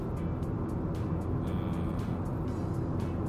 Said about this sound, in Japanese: 追い越し車線でちゃんと追い越します。